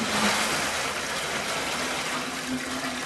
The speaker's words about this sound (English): They've had to haul water from neighbors and friends in barrels in the back of their pickup, then scoop it into buckets to wash dishes.